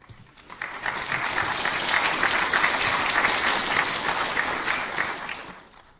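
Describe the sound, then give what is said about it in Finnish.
An evening audience at the Lappi panel of the Jyväskylä Summer festival in Jyväskylä, Finland, applauds steadily, a dense crackle of many hands clapping that swells in quickly, holds at an even level for several seconds, then tapers off at the end. “Yleisön välittömät reagoinnit ovat osoittaneet, että Lapin teesien nostamat ongelmat synnyttävät selvästikin solidaarisuuden aallon täällä tänä iltana.”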